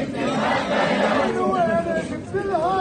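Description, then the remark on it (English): Several hundred protesters march through the narrow streets of Ramallah in the West Bank in support of Hamas, shouting and chanting the names of Hamas leaders together, loud and dense, with individual voices rising in wavering, sustained cries above the roar of the mass. “Several hundred protesters coursed through the narrow streets of Ramallah Sunday, chanting the names of the leaders of Hamas.”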